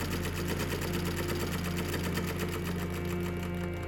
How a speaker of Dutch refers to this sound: Ze gaat naar huis waar ze haar mooiste avondjurk pakt en begint te naaien. Urenlang zit ze achter de machine.